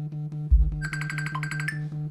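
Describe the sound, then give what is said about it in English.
After a dull thump, a phone starts ringing with a rapid, pulsing electronic trill, fairly loud, over a steady low droning tone. No one speaks. “Sorry about the ringing.”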